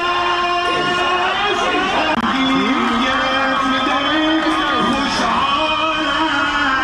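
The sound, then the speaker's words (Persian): A loud, dense crowd roars and chants slogans continuously while a heavyset man shouts over the din through a loudspeaker to drown out the crowd's slogans, with overlapping yells rising and falling throughout. “در بکراند میشنویم دیگه”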